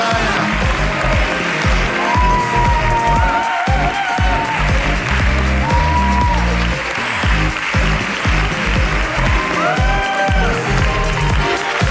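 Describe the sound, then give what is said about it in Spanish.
An audience applauds loudly and steadily for about twelve seconds for a woman in the front row, a dense wash of clapping with some cheering voices and whoops rising above it. “¡Aplauso para ella!”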